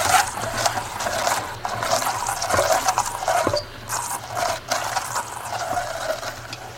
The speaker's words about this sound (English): Okay, we're about to spin the globe on the equator.